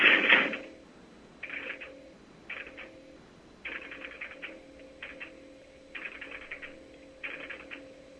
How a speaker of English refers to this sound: I will dial the number, and then you may hear some clatters of the marker operating, and then there will be some MF tones. coming over that hopefully will make it over the radio.